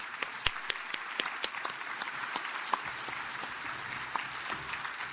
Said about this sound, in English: Let's give final applause to all the liturgical ministers of St. Bernadette's Parish